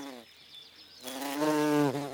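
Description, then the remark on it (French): Cicadas chirring in summer in Marseille, Provence, in a steady buzzing drone: a thin, high whine at first, then a louder, richer rasping buzz that swells and briefly dips in pitch near the end. “L'été, il y a des cigales, mais c'est normal, on est à Marseille, en Provence.”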